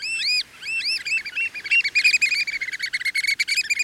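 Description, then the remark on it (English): An American oystercatcher calls loudly with shrill, ringing whistles: a few slow, down-slurred notes that break into a fast, excited run of sharp piping calls, with no voices. “That is an American oyster catcher.”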